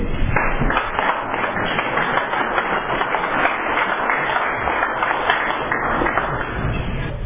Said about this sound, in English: Okay, and let's give a rousing round of applause and welcome our warm-up speaker